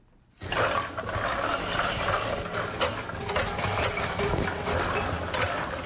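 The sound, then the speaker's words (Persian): Small machines of the Ariana factory, which makes hair shampoo and cosmetic creams in two small rooms of a residential house on the outskirts of Jalalabad, Afghanistan, run steadily: a dense mechanical rumble and clatter with rhythmic knocking and faint high ticks, starting abruptly and holding a constant loud level without any talking. “صدایی را که میشنوید از ماشین های کوچک فابریکای به نام آریانا است که برای باشندگان ولایت شرقی شامپوی مو و کریم های آرایشی را تولید میکند.”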